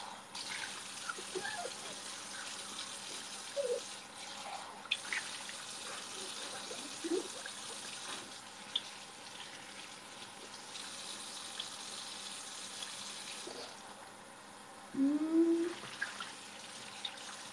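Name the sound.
tap water running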